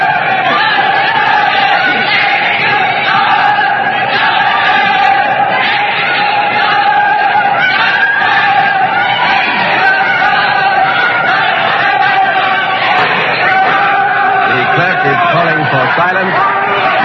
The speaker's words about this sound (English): The words are justice, execution, justice, execution. The shouts for and against the king are crashing here in this courtroom. Let's listen to them.